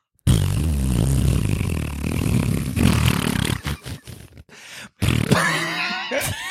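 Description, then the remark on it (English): A voice makes a long, buzzy raspberry imitating a fart, low and sputtering, breaking into choppy bursts before a final wet, trailing flutter. “Alright, I'm going to pretend to fart.”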